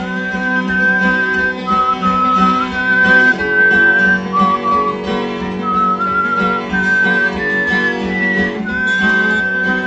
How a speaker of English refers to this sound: That's folk singer and left-leaning social activist … whistling the introduction to his version of America the Beautiful.